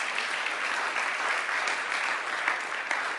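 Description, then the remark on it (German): Sustained audience applause after a personal faith testimony, a dense steady wash of many hands clapping at once, fairly loud and continuous throughout with no voices standing out. “Das ist auch das, worauf ich gleich, erstmal einen Beifall.”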